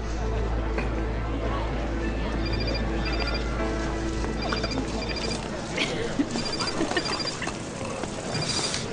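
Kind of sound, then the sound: household object, telephone ringing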